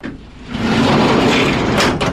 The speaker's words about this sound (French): Tiroir ouvert.